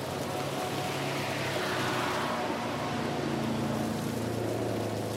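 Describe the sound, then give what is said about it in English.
A sports car engine runs loud while the car is being driven, its deep droning growl holding steady for several seconds while the pitch shifts slightly up and down, with no voices over it. “I love that sound. This car is make all your rock and roll fantasies come true.”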